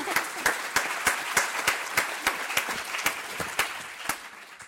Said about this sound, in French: On peut l'applaudir, évidemment.